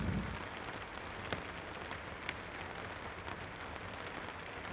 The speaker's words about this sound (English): Small drops of rain drip onto your arm. It starts to rain.